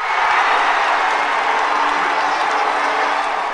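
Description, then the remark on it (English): A large crowd in London's Trafalgar Square cheers and roars continuously as the IOC picks London over Paris to host the 2012 Summer Olympics, a dense, loud wash of voices with scattered clapping and shouts, sustained at a steady level throughout without a break. “Crowds in London's Trafalgar Square were apparently as startled as anyone.”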